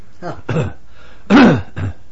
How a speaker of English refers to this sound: Got a cough.